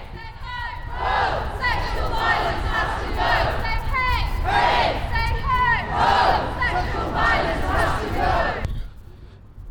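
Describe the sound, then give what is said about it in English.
A large protest crowd of a few hundred people at an Edinburgh University protest in Bristow Square, in front of McEwen Hall, chants loudly in unison, repeating shouted phrases in a steady rhythm over a constant rumble of crowd noise, until the sound cuts off abruptly near the end. “We're in Bristow Square, a much bigger crowd than I had expected actually. There's a lot of people here.”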